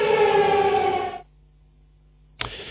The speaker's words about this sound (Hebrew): כן, עוד אזעקה, עוד אנחנו מדברים, וזה אזור אשדוד, אזעקה. אשדוד, אזעקה.